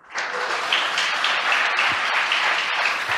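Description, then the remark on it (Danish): A burst of steady, dense applause from colleagues in NASA's mission control room after a large round piece of space debris narrowly flew past the spacecraft, many hands clapping at once in a continuous wash with no clear individual beats, lasting a few seconds at an even, fairly loud level. “Vi kan lige høre, hvordan det her ufatteligt tætte close call blev modtaget hos de noget spændte kollegaer i NASA's kontrolrum.”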